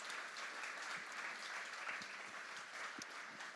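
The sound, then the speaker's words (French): An audience applauds a team again for a huge job of work, a dense wash of many hands clapping at an even level throughout, with no voices standing out. “On va encore les applaudir parce que c'est un immense boulot.”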